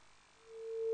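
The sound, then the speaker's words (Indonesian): A steady, single-pitched phone line tone, like the one after a call disconnects, fades in and swells louder over about a second, with no talking. “Baik, terputus. Kita tunggu kembali.”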